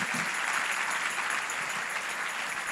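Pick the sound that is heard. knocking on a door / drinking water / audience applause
audience applause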